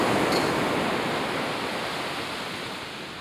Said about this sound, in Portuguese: Mar é um misterioso fantasma que os envolve. Os dias de inverno, uma voz coerente. Mete medo. Entra pela terra. O bramido do mar. Cada vez mais alto.